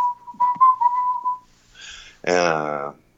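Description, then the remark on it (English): A person whistles a short melodic phrase, a clear, close tone of steady and wavering notes for about a second and a half, followed by a brief sung or hummed voice. “And then I sometimes do a little whistling bit with that that goes.”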